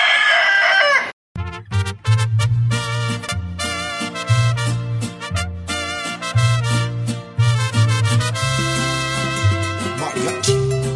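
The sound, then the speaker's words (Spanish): A rooster crows once, loud, for about a second before a band kicks in with steady bass and brassy music that plays on to the end. It opens Mi Gallo, a radio program about fighting birds. “Compromisos de mi gallo.”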